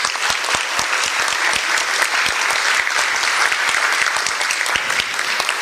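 At a panel discussion, the audience applauds panelist Professor Wolfgang Klangwächter, recently appointed to the board of ICANN: a dense patter of many hands clapping at a steady, fairly loud level for several seconds, with no one speaking over it.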